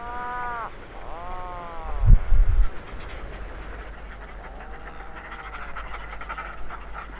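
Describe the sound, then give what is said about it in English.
A puffin gives drawn-out, growling groans in three bursts, separated by a brief low rumbling thud, with faint high chirps and a steady low hum underneath. “With its colourful beak and comical groan, it is one of the world's favourite birds.”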